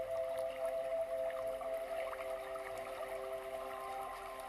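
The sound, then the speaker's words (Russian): Steady rushing water from a nearby stream, a continuous broad wash with some gurgling detail, moderately loud and unbroken throughout, with no voices. “И вы слышите, что где-то невдалеке мощный водяной поток.”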